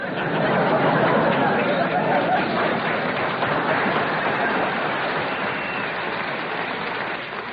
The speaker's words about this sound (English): We are now riding in the Senate subway.